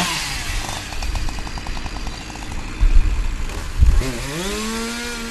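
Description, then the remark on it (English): A chainsaw used for cutting trees in municipal tree work in Gardner drones, idling with a steady buzz before its engine revs up sharply toward the end, with low thumps in between and no voices. “Michael Gagneau is too busy mowing grass, digging holes at the cemetery, or cutting trees, where I caught up with him”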